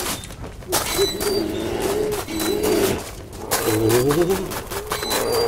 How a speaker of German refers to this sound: Oh, diese Eulen.